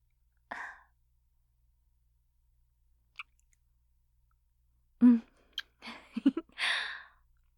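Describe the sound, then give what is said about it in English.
A short, sharp breathy gasp near the start, followed by quiet, then a cluster of soft clicks and another airy breath toward the end. No talking. “Nice gasp.”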